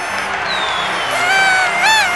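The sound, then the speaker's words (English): A lively party crowd in Sydney cheers in a steady, dense roar, with high whoops and shrill rising shouts cutting through and swelling louder toward the end, as fireworks go off at a footy celebration. “A bit of a party going now.”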